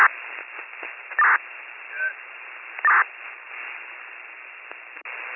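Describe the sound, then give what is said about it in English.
Crackly, band-limited radio static hisses throughout, with two louder bursts of noise and a brief garbled tone partway through, like a poor two-way radio channel. “static. Go again.”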